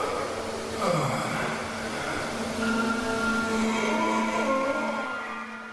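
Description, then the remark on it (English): A 6-ton mechanical sculpture by Černý, a converted red double-decker bus doing push-ups, groans and grunts as it lifts itself off the ground: a steady low droning hum with whining tones layered on top and a sliding downward swoop early on. Moderately loud, with no talking. “The 6-ton mechanical sculpture even audibly grunts and groans as it lifts itself off the ground, making it a perfect draw for the upcoming Olympics.”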